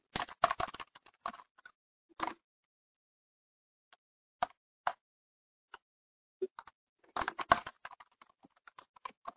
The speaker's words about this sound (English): And you can see, actually, hopefully you can see on the screen that it is automatically filling in as I was typing.